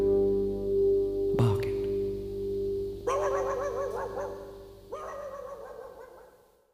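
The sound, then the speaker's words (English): A dog barks in two drawn-out, wavering bursts, fairly loud, following a brief thump, with a steady low hum running underneath. “I can almost hear him now.”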